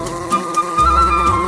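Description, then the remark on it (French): A steady, droning buzz with a humming pitch, like bees swarming in a hive, holds at an even loudness for the whole moment with no voices over it. “Et dans la ruche tourbillonne, prêtes à prendre leur élan. Bzz, bzz, bzz, bzz, bzz. Les abeilles.”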